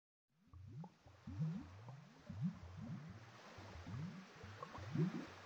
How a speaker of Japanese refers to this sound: 波の音がする。静かで暖かい命の生まれた場所。